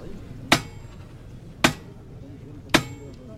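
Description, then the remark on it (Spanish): Three sharp hammer strikes land at a slow, steady pace about a second apart, each a crisp, bright crack with a brief ring, over a low, murky background hum. “Mira, van a llamar al martillo.”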